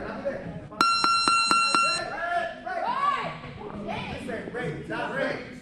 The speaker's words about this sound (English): And while you may think that bells ringing every few minutes is a bit Pavlovian,